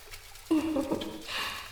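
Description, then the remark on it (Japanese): A short squelchy squirt of shampoo pressed from a bottle into a palm, followed by soft wet lathering hiss close to the ear as the shampoo is worked into foam, quiet overall. “じゃあ、シャンプーを手のひらに出して、泡立てて、事前にしっかり泡立てておかないと、上手に汚れ落とせないもんね。”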